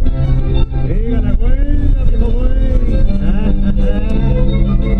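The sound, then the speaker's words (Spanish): Steady low engine rumble and road noise from a moving taxi, continuous and fairly loud throughout, with muffled voices and the radio, playing tangos, drifting over the drone, on a three-quarter-hour ride from the city centre to Pietrabuena. “Ein Taxi, in dem das Radio, auch wenn es klischiert tönt, ununterbrochen Tangos abspielt, führte uns in einer Dreiviertelstunde vom Zentrum nach Pietrabuena.”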